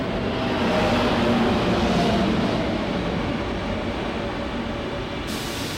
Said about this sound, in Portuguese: Os comboios faziam aqui movimento. Fizeram esta estação nova e nunca mais deu movimento aqui.